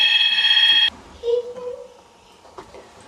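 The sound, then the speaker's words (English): A telephone rings loudly with a shrill electronic trill for just under a second, then cuts off abruptly, leaving a quieter room where a faint voice can be heard. “Hold on, let's see if we can get that phone just a minute.”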